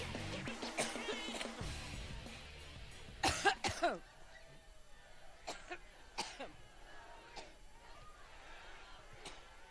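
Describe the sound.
Hillary Clinton coughs repeatedly: a loud cluster of harsh coughs midway, then several scattered, fainter single coughs. A brief stretch of voice comes at the start, with light background noise throughout.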